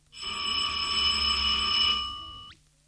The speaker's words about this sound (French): Leur conversation est subitement interrompue par la sonnerie de 10h30.